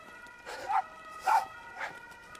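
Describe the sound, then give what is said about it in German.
A dog barks at an ambulance three times at a steady pace, each bark short and bright, the last one a little softer, over a faint background hum. “Der Hund bellt den Rettungswagen an, nicht uns.”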